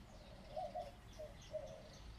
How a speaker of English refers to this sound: Do you hear birds?